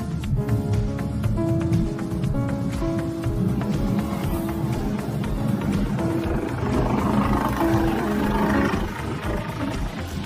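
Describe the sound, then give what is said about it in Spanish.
A piano plays continuously for about ten seconds, with full low chords and a steady stream of struck notes at an even, fairly loud level, with no talking. “Sin necesidad de ver, sabemos que es un piano, y esto se debe a que cada uno tiene un timbre diferente.”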